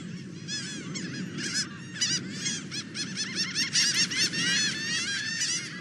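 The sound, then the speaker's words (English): A laughing gull calls loudly and repeatedly, its nasal, rising-and-falling cries overlapping in a busy chorus over a steady low rumble of background noise. “It took a while there, but I heard that bird laughing.”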